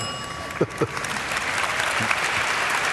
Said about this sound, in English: Remember, well, who was that hand for? No, they're not. They're applauding for Bill. They're applauding.